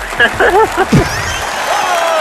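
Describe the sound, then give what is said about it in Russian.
A group claps in a steady, dense patter, applauding someone who guessed correctly for the second time, with excited voices calling out over the start before the applause carries on alone. “Мальчики, хлопаем.”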